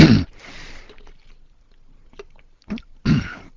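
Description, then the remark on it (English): Someone sips water: a short breathy slurp, a few faint wet swallowing clicks in a quiet gap, then another brief slurp or throat-clearing sound at the end. No talking. “Let's have a little sip of water.”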